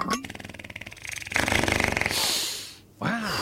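fart sound

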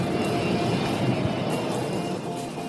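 airplane engine

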